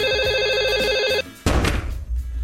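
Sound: telephone ringing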